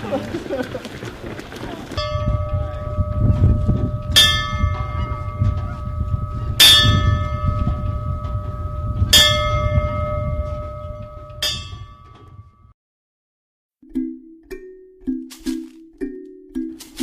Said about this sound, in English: But there is one thing missing. And that's ringing the bell. We got one. Go get it.